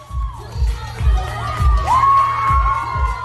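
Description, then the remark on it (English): A crowd cheers wildly as a drag performer swings a cape around her body and kicks it up, with high rising and falling whoops and shouts piercing through, all over a steady, thumping bass beat pulsing about twice a second. “At one point, she swings the cape around her body, kicks it up, and the crowd goes wild.”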